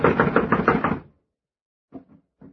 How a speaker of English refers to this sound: Blast it, it's locked from the inside. Well, someone is definitely in there. I'm going to knock. Now listen closely.